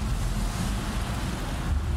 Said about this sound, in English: You can hear it in the roar of the ocean.